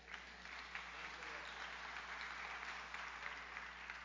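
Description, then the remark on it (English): An audience gives a clap offering to the Lord during a sermon, applauding steadily for about four seconds, a dense, even patter of many hands clapping at moderate loudness with no voices standing out. “Give the Lord a clap offering with that.”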